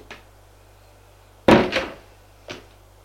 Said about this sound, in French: La porte de la chambre de Gilles s'est ouverte.